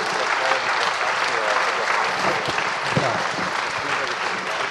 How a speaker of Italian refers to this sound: L'applauso mi rassicura molto.